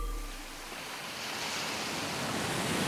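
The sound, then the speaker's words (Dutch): Steady Atlantic Ocean surf washes and roars, a broad hiss of breaking waves that swells slightly louder toward the end, with no voices present. “Welkom in de Atlantische Oceaan.”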